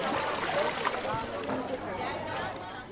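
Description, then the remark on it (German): A boat comes ashore at the Sebaguru landing site on a lake in Uganda, with steady water splashing and lapping against the hull while a crowd of voices murmurs, fairly loud and continuous throughout. “Trotzdem landen täglich neue Boote an der Anlegestelle Sebaguru.”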